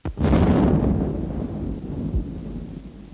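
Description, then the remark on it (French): A single artillery shell explosion from the Big Bertha gun striking the maternity hospital on rue d'Assas: a sharp, loud blast followed by a heavy, low rumbling roar that slowly fades over a few seconds, with no voices. “C'est l'explosion de Nebout de la grosse Bertha sur la maternité de la rue d'Assas.”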